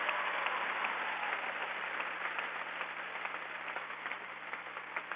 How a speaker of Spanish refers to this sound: Un aplauso a todas las mamás que reciben hoy este pago.